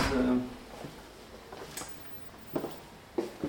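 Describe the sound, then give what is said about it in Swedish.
A heavy all-metal security door is locked with three bolts, which shoot home in a few sharp metallic clacks spaced about a second apart, following a dull thud at the start. “När man löser så löser man med tre kolvar.”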